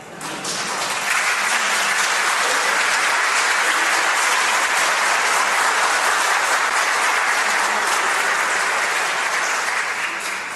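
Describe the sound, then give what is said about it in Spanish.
An audience applauds for God in a church on a Sunday, a dense, steady wash of many hands clapping that rises quickly and holds loud and even for about ten seconds, with no talking over it. “Ya sabéis que todos los aplausos que damos en una iglesia siempre son para Dios, ¿verdad?”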